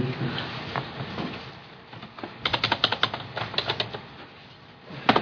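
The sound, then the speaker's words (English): Rapid keyboard typing, a quick patter of clicking keystrokes in bursts, fairly clear, with some faint background murmur early on before the typing picks up. “Keyboard.”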